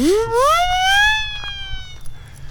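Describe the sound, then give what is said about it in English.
A single rising wail, a voice imitating a siren, sweeps upward and holds a high, steady tone before fading out over a low background rumble. “Maybe I should be using this siren to get people out of my way.”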